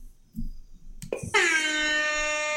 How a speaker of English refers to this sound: Thank you. That's the air horn of dad wrongness.